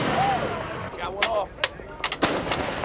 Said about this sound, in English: The other howitzers have already begun firing.